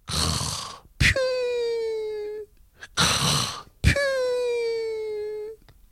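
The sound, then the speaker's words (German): A voice mimics snoring in two slow cycles as the story character Hermann pretends to sleep on his sofa, each a loud raspy inhaled snore followed by a long, steady, whistling moan on the exhale. “Dann tut er so, als ob er schnarchend schlafen würde.”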